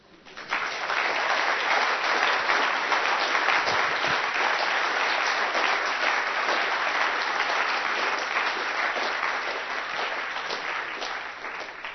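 At the end of a presentation, a crowd applauds steadily for about twelve seconds, a dense wash of many hands clapping at once that rises quickly, holds loud and even, then tapers slightly at the end.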